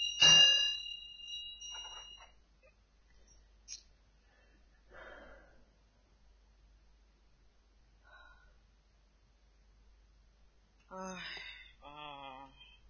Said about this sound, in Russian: Тут, пожалуй, и вы услышали еще. Дверь там как бы приоткрыта, услышали гул колокола. Но как-то город очень неохотно просыпается, потому что зима, конечно. Крики не слышны, а вот удар колокола слышен.